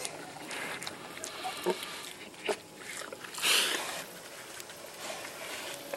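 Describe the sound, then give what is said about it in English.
Pigs grunt and squeal in short, noisy bursts as they are being fed, over a steady rustling farmyard background, with a louder, harsher cry about halfway through. “Here I am feeding pigs.”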